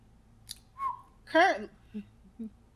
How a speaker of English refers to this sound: are you whistling?